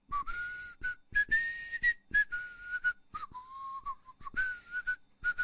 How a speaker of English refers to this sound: He hid behind a cottage and waited for the baker's boy. After a while, he heard someone whistling.